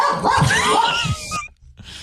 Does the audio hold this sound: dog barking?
yes